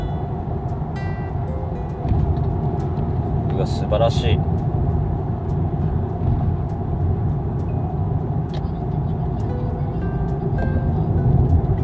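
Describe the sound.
A steady, low engine drone and road rumble from inside a new Subaru car moving on the road, continuous throughout, with a person briefly speaking over it.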